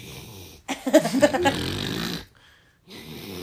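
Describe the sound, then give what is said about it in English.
A small, raspy snore with a few quick snorting pulses that run into a longer rattling exhale, then a brief silence before a softer breath begins. “Is it your little snore”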